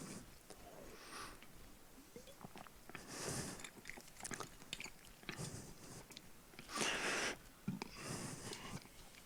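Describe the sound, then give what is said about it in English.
Quiet mouth sounds of someone sipping and swallowing water during a short pause in a talk: a few soft slurps and gulps with small clicks and breaths in between, and no talking. “I'll take a sip of water before we go into the second part.”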